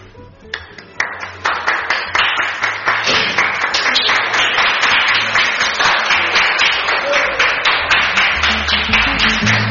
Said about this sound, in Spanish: Un aplauso, por favor.